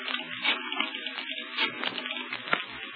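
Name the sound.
shower water running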